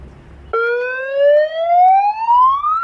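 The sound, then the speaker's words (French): An industrial alert siren kicks in abruptly after a moment of low rumble, its loud tone climbing steadily in pitch as it begins to wail, with no voices. “J'espère que ces sirènes ne sont pas intervenues trop tard”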